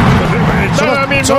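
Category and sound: sound effect, fireworks exploding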